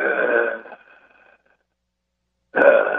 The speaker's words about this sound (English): Oh my God, that breathing!